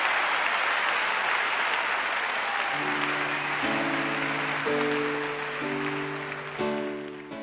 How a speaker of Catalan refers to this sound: Llàgrimes, espelmes enceses i llargs aplaudiments van anar marcant el ritme d'un concert